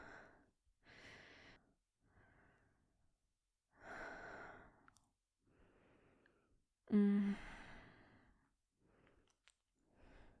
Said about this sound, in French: Sais que tu peux les entendre arriver. Tu connais si bien ma respiration maintenant.